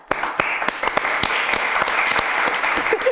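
A crowd claps in sustained applause, a dense wash of overlapping hand claps with a few sharper, louder claps standing out.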